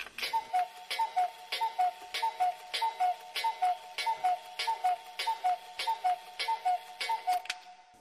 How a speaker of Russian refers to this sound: Она не обратила внимания, что часы в большой комнате пробили 12 раз.